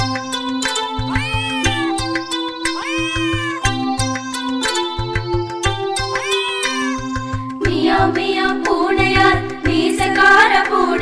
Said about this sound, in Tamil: எலிகள் வேட்டை ஆடுவார் மியாவ் மியாவ் பூனையார்.